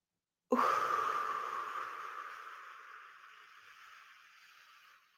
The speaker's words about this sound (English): Breathing down into the diaphragm, allowing the belly to expand, holding it.